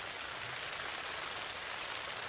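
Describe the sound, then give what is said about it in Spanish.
Steady early-morning rain patters on taut tent fabric in the páramo, a dense, even hiss of drops with no break, fairly soft, and no voices. “Nos despertamos en nuestras carpas con el sonido de la lluvia.”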